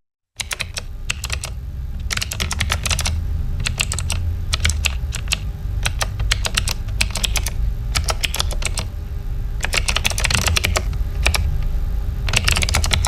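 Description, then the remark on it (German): Rapid typing on a computer keyboard, a steady stream of sharp clicking keystrokes in quick bursts with brief pauses, over a low background hum. No one speaks. “Wenn Sie jetzt noch eine Taste drücken, klingt das Ganze gleich viel besser.”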